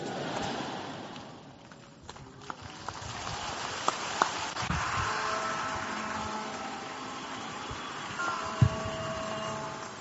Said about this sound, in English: Now clap some more for the Lord. He's worthy. He's worthy. Keep clapping for him. Keep clapping for him. He's worthy.